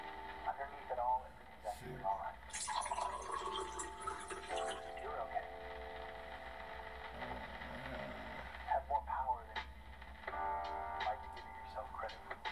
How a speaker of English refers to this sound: That's some chill hop.